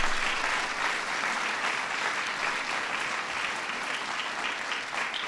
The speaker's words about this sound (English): The acting chairwoman of the National Endowment for the Arts, Joan Shigekawa. Give Joan a big round of applause.